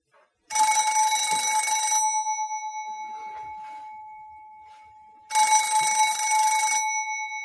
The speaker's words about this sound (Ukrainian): Телефонний дзвінок вивів його з задуми.